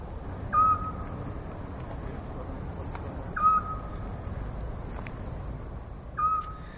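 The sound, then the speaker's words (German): A little owl calls three times at slow, even intervals, each a short, clear whistled hoot rising above a steady low rumble and hiss of background noise. “Auf der Rückseite der griechischen 1-Euro-Münze ist die Athener Eule abgebildet.”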